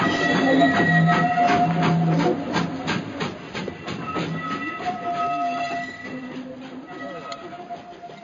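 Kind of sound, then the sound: vehicle, train departing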